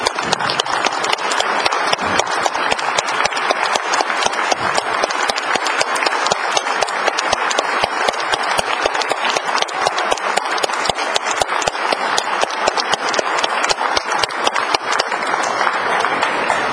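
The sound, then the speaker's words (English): A large crowd applauds standing awardees at a Patriot Day ceremony, a dense, even patter of many hands clapping that holds at a constant loudness for the whole stretch with no voices over it. “I ask all of our awardees to please stand one more time, and let's give them a round of applause.”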